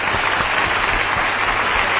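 A crowd applauds a presenter finishing her first segment of Las Chicas También Juegan, many hands clapping in a dense, steady patter that holds at an even loudness throughout, and no voices rise above it.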